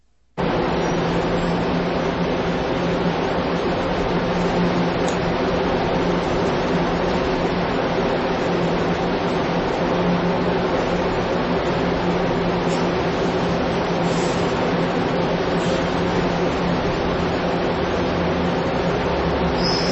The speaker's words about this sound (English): Here is the exhaust from Eaton's department store, built in 1973, as it blows out over pedestrians at a bus stop outside the store.